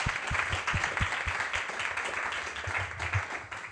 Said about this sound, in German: Erstmal einen großen Applaus auch für den Arif, und dann Arif.